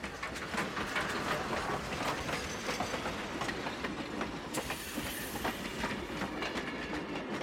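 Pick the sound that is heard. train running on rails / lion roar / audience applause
train running on rails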